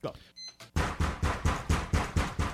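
A quick, steady series of about eight loud knocks, evenly spaced, as someone knocks at the door, after a brief soft clatter with a faint high ring.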